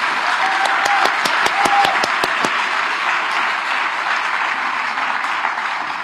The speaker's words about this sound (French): On applaudit les personnes âgées. Très fort, si c'est vrai.